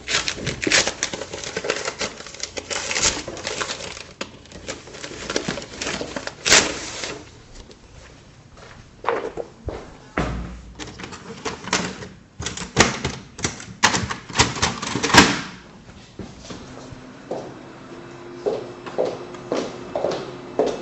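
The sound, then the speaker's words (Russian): A small printer clatters as it prints a price tag, with rapid mechanical rattling and clicking in bursts, ending with a few short stepped motor whirs as it finishes. “Так, сейчас тогда распечатаем сразу ценник.”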